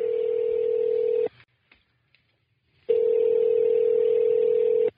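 An outgoing call's ringback tone: two long, steady, loud electronic tones around a low-mid pitch, each about 1.3 to 2 seconds, separated by a silent pause.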